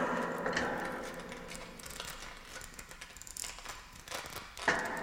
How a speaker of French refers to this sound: Écoutez. Écoutez, ce grincement continue.